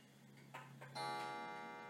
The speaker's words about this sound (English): You know, some of you guys are like, the fucking clock is back on. It's ticking away again. I hear it in the background. It just pisses me off. Well, you know what? I like it. I bought that as a gift for my parents.